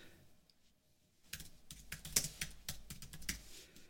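Rapid typing of short texts on a computer keyboard, a flurry of crisp key clicks in an irregular rhythm after a brief quiet start, with no voices.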